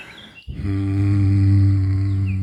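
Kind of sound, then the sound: human body sound, humming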